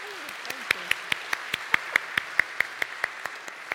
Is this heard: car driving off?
no